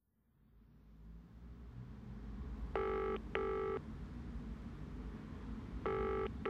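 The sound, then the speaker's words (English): A telephone ringing tone, heard while placing a call about an audition, sounds in a double-pulse pattern, two short rings, a pause, then another ring, over a steady low rumble that swells in from quiet. No one speaks. “phones about the audition.”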